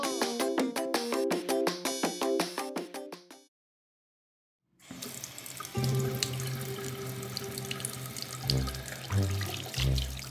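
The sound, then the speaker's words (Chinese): A few plucked melodic notes give way to a short silence, then steady running water gushes continuously, like a shower spraying from above, with occasional low thuds beneath the hiss. “风徐徐的吹来，淋浴的感觉也好清凉。”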